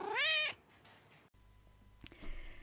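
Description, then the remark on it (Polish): A single clear cat meow rings out at the start, rising and falling over half a second, followed by quiet room noise and a faint click. “ten kiciuś miauczący na początku odcinka, jeżeli słyszeliście czołówkę,”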